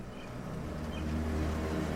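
A car engine hums with a low, steady rumble that grows slightly louder as the vehicle approaches and parks near a bridge, with no voices present.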